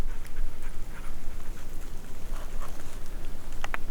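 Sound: dog panting and whimpering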